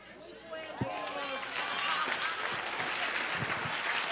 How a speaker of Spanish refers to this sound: Si usted quiere aplaude, yo no sé.